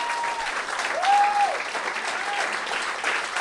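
An audience applauds a man in the audience for a few seconds, a dense rattle of many hands clapping at an even level, with a brief high whistle cutting through near the middle.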